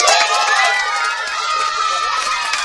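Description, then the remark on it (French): A lively crowd of jungle animals cheers and applauds their new king, an elephant. A dense, continuous burst of excited calls stays loud for the whole moment without dying down. “Tous les animaux, heureux, applaudirent le nouveau roi.”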